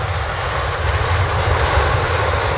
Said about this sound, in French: Chers passagers, nous allons atterrir dans 10 minutes. Veuillez attacher vos ceintures et restez assis. L'avion atterrit et se gare.